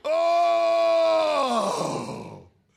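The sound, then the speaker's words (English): A person imitates a cow's lowing with one long, loud groan-like tone that holds steady, then drops in pitch and turns rough and breathy before trailing off. “And they were, oh, that's not lowing, but that's the best I can do.”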